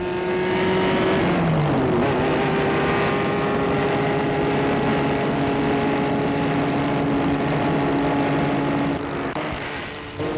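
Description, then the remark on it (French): A car speeds away into the night, its engine humming steadily and loudly throughout, with a shift in pitch early on as it picks up speed, then a constant drone of driving with no voices. “Et la voiture file.”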